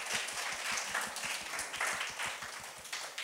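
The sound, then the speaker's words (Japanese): An audience claps steadily for a recent high school graduate, a dense wash of many hands applauding together, continuing evenly throughout with no voices standing out. “もう一度拍手をお願いします。”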